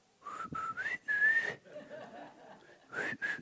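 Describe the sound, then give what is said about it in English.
A man whistles in short, breathy bursts to call his son, a Marine, at the son's barracks: a few rising and sustained notes, a pause, then two more quick whistles, moderately loud, with no talking. “and I'm whistling for my son.”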